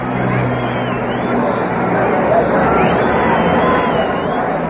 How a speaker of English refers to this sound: One sailor climbed the whole way up and down again. The terrific excitement of the crowd. And as for the noise of it, well, listen for yourselves